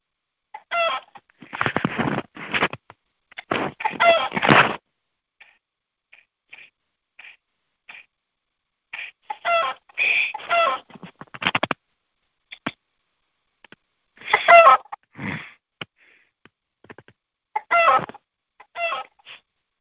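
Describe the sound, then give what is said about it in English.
Chickens cluck in bursts of rapid, throaty calls, separated by short quiet gaps. They are moderately loud, with faint clucks scattered between the louder flurries and no talking. “Let's work on getting that chicken to the chicken coop.”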